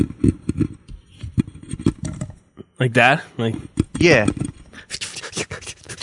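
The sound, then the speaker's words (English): Rapid, dry scratching taps in an irregular patter, imitating tiny feet scurrying in a basement drop ceiling, then a brief pause before voices speak over a few more soft scratches and a hissy rustle. “Like little feet scurrying?”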